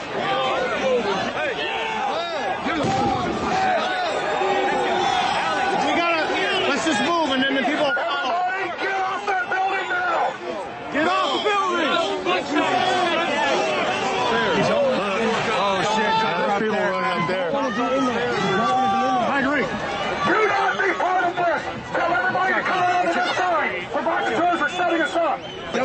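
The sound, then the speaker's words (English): A large crowd at the U.S. Capitol chatters continuously outdoors, a dense babble of many overlapping voices at a steady, fairly loud level with occasional louder calls rising above the hubbub. “Look at that fucking crowd.”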